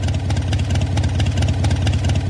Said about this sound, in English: I've just taught you how to do a mean impression of a Harley-Davidson motorcycle with a V-twin engine at idle. Harley-Davidson of Milwaukee has now abandoned its six-year effort to defend its trademark protection for that sound.